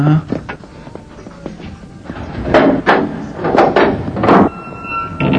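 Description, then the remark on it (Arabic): A heavy door opens with a series of loud wooden clunks and scraping bursts, rattling for a couple of seconds before settling into quiet room tone. “يا إلهي، الخليفة، انهض، افتح الباب.”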